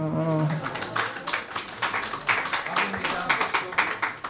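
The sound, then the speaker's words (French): A voice speaks briefly, then a group breaks into steady, moderately loud applause for the ladies, many hands clapping in a dense, uneven patter that carries on to the end. “Allez, un petit applaudir, hein, les dames.”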